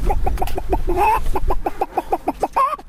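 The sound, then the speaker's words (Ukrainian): On a street, a man's voice imitates a hen for a group of children, letting out a rapid, steady run of short clucks with a couple of drawn-out rising squawks, loud throughout. “А котра яйцька снесла?”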